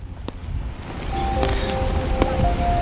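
rain falling outdoors

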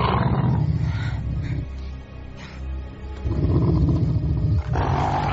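wolf growling

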